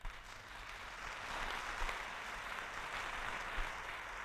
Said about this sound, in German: Applaus.